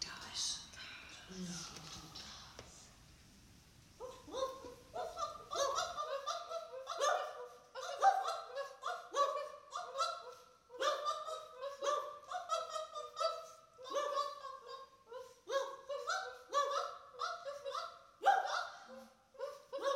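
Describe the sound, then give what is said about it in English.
A dog gives a long, rapid run of short, high-pitched yips and whimpers, steady in loudness, following a few seconds of low rumbling noise at the start. “Listen to the dog.”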